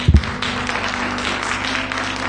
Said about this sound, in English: Come on and put your hands together and welcome. Come on and give Jesus a hand clap.